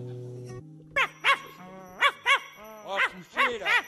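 A dog barks in a quick, uneven series of about seven or eight sharp, yelping barks, following a brief low steady hum at the start.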